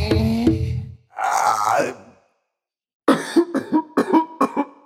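A groaning voice and a rough, raspy hack lead into a loud fit of wet, phlegmy coughs, about six harsh bursts in quick succession with no talking.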